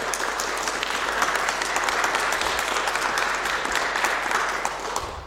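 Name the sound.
audience clapping to vote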